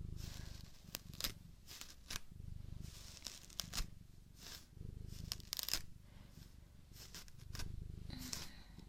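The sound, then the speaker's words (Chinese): A comb drags through a cat's tangled, knotted fur in uneven scratchy strokes, about a dozen rasping pulls with brief pauses, over a soft, steady low rumble. “乖了，过来过来，没事哦，妈妈慢一点梳，不会疼的。哦呦，哦呦呦，打结了，不好梳呀。”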